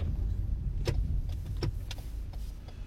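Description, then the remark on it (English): A car rolls by with a steady, low engine rumble that holds an even level throughout, broken by a few sharp, brief clicks. No one speaks. “Oh, that car's moving.”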